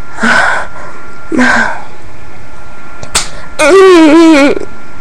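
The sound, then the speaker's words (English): A single sharp slap of a hand on bare skin, a woman slapping her own clitoris, comes after two short breathy bursts, then a voice lets out a drawn-out, wavering cry right after the smack. “I'm gonna slap my clit.”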